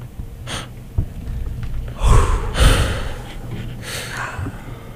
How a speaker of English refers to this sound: Everyone loves some good just breathing on the air. That's mm-hmm. why people listen to radio still.